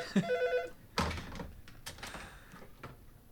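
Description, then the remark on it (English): A telephone rings as a caller phones back, with a bright, bell-like harmonic trill at the start, followed by clattering knocks and scraping handling noises. “And there he is right now. And I don't know how to answer that phone, so that's super awkward.”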